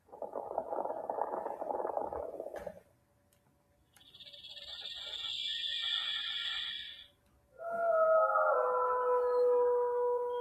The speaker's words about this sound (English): Think that was a wolf? That was a dingo. They can kill coyotes. They're that strong.